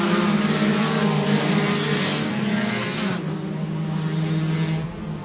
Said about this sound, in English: And we stay green. No caution. Can you imagine that? We are working lap 12, and these cars are still beating and banging all the way around.